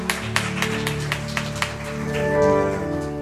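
An audience claps hands in a steady rhythmic beat over sustained, held keyboard chords that swell slightly toward the end; no one speaks. It is a hand clap of praise for the combined choir.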